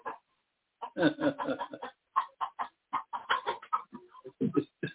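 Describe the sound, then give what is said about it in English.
A chicken clucks in a rapid, busy series of short bursts, moderately quiet, starting after a brief silence and continuing steadily to the end, with no talking. “Alhamdulillah, the chicken coming at you.”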